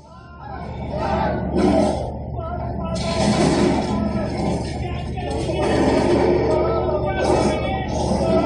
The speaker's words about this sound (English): That is one of the guys in the cage had hearing damage because of how loud the lion was roaring.